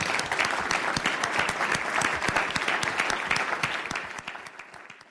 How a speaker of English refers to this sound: On behalf of One Omaha, I'd like to thank all three of our mayoral candidates for participating tonight. If we could just give a round of applause.